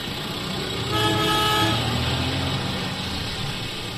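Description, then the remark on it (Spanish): Dense rush-hour road traffic of people driving to work rumbles steadily while a car horn blares in a sustained, harmonic honk around the first second and a half, with fainter toots mixed into the engine noise. “Esta es la sintonía habitual que acompaña cada día a los valientes que deciden coger su vehículo para llegar hasta su puesto de trabajo o para realizar cualquier otro trayecto en las horas puntas del día.”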